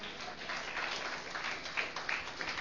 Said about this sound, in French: Ah, on applaudit Jésus.